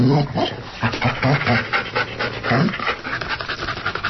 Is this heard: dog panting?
yes